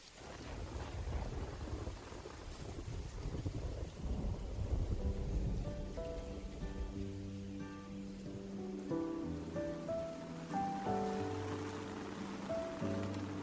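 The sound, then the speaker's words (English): Steady rain hisses throughout a summer thunderstorm while deep thunder rumbles in the first few seconds, then a soft, sustained musical melody rises over the continuing downpour. No one speaks. “During summer's thunderstorms, we marvel at the maple's flexibility and tenacity.”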